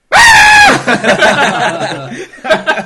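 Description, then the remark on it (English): A person loudly imitates a screaming goat with one strained, sustained bleat-like yell that drops slightly in pitch at the end, followed by bursts of chuckling laughter. “He's like, walks up to it, goat just goes.”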